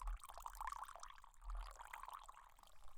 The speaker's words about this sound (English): All right, let me get a little bit of it out and pour it into a cup for you. One sec. First, I have to undo the lid, of course. Okay, and now it's time to pour you a cup of it.